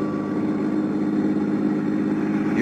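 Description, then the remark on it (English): A steady engine hum of a new car being driven into town in Sarasota, Florida, a continuous low mechanical drone, fairly loud with no breaks and no voices. “You like my new car, Johnny?”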